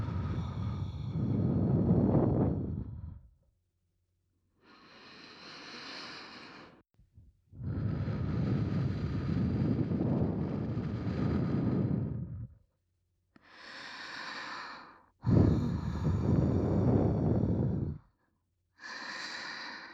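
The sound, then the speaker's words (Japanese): Slow, warm breaths from a woman blown right up against the microphone, each long exhale whooshing softly and separated by short quiet pauses, with no one speaking. “女性の温かい吐息、心地いいでしょう。”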